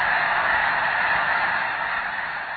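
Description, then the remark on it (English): A huge flock of 10,000 or more snow geese calling all at once as they take flight from a field when a bald eagle flies over, a dense, continuous wall of honking that stays loud throughout, with no talking. “And listen, too, when a bald eagle flies over and the multitudes take flight in a spectacular avian blizzard, their joined voices all but deafening.”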